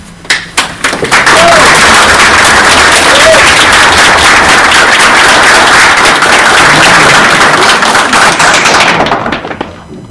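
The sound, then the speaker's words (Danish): An audience at a municipal meeting breaks into applause after a question is asked, starting with a few scattered claps that quickly swell into dense, loud, steady clapping for several seconds before stopping abruptly. “Hvor vi respekterer hinanden, hvad der er ud af, bare som man ikke klapper.”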